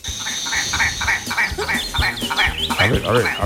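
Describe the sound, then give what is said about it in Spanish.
A willow ptarmigan gives a loud series of rapid, rhythmic croaking calls, almost frog-like, repeating in quick pulses before rising into a harsher, more nasal burst at the end. “vamos a poner el segundo pájaro, que se llama lagópodo común.”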